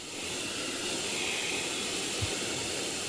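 A Mega Vacuum cleaner runs with a steady, unbroken whooshing roar, heavy in hiss and airy high tones, holding the same loudness throughout with no voices.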